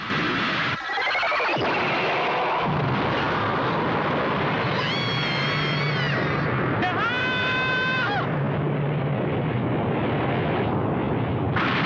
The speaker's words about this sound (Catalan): Una explosió d'energia immensa envaeix l'espai durant uns instants.